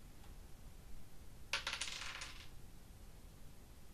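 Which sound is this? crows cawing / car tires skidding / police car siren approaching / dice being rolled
dice being rolled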